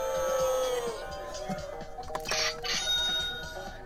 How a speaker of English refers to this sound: Johnny Bueno's taking a phone call.